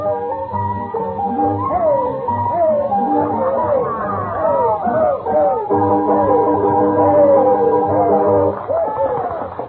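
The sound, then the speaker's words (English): Loud, dense crowd chatter fills the Shashlik Shanty, a little Russian restaurant in the village, many voices overlapping continuously, mixed with rising, howl-like cries and yelps that swoop up and down throughout. “They had a noisy clientele at the shanty.”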